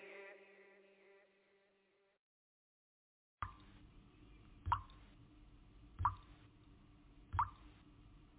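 Water drips in a slow, steady rhythm, four distinct plopping drops about a second and a half apart over a soft hiss. A fading tonal sound is heard first, followed by a brief silence.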